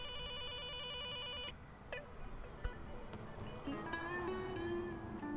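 An electronic doorbell rings with a steady, buzzing, warbling tone for about a second and a half, then cuts off, leaving a noisy background with faint thin tones.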